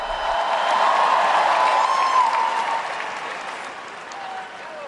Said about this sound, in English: And when his helpers had to bring out not one but three microphones because two failed to work, he looked a little out of sorts, but comforted by the cheers of encouragement that rose from the crowd.